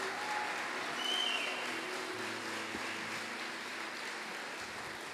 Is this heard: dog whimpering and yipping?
no